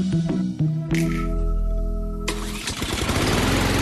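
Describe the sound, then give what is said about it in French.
A small lawn mower engine cranks a few times with short pull-start bursts, then catches and roars into a loud, steady run, with no talking. “L'heure du souper, ce n'est pas l'heure pour la tondeuse.”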